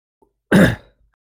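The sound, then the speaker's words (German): A single short throat clearing during a meeting, a rough burst lasting under half a second, followed by quiet with no talking. “Das war nur ein Räuspern oder war das ein Ich möchte was berichten?”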